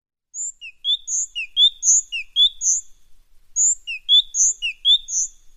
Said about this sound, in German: Eine Kohlmeise.